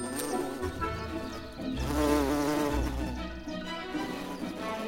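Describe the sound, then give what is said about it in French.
A bumblebee buzzes in flight, a low, steady drone that wavers and swells as it moves, growing loudest midway before easing off again. No voices are heard. “Ils sont capables de voler par un temps froid que ne supportent pas les abeilles à miel.”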